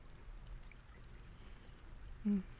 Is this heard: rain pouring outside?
yes